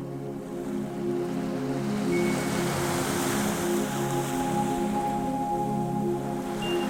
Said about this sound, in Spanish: Inhalas y el mar besa la orilla. Exhalas y se retira.